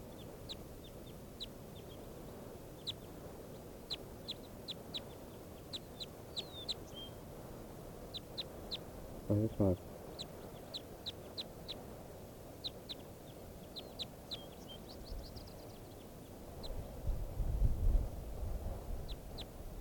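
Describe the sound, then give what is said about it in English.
A bird, identified as bird 585, calls repeatedly with short, high, sharp chirps scattered throughout, a harsher burst of calls around the middle, over a steady background hiss and a low rumble near the end, recorded in the field as a microphone test with a new battery. “Testing bird 585 again with a new battery in the microphone.”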